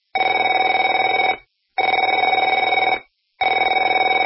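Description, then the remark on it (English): A telephone rings in three loud, steady bursts of about a second and a half each, separated by short silences, with a bright, trilling electronic-bell tone and no voices. “Afraid to answer it?”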